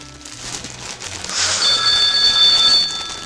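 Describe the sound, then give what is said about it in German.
A telephone rings with a bright, high-pitched trilling tone that starts partway through and keeps going steadily to the end, over a low background rumble. No one speaks. “Willst du das Telefon nicht abnehmen, Ernst?”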